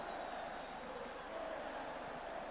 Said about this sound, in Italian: Sale il coro dei tifosi, è stato il Cagliari ad andare vicinissimo al gol del pareggio